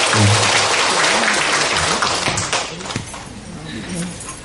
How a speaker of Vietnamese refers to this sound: Hôm nay toàn thể quý Phật tử chúng ta được hân hoan vui mừng cùng đón Thầy Thích Pháp Hòa, viện chủ tu viện Trúc Lâm đến từ Canada. Xin đại chúng chúng ta một tràng pháo tay để chúng ta cùng đón.